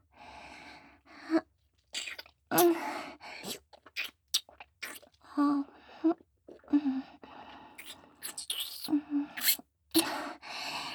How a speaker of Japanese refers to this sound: 先生の息遣い、どんどん荒くなってますよ。